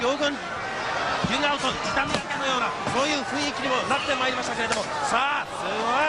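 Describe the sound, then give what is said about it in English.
Two sharp, loud slaps to the face crack out a second apart, hard-hitting, while people talk continuously over and around them. “I'm going to forward this a tiny bit because he gives our man there two of the hardest slaps you'll ever hear in your life.”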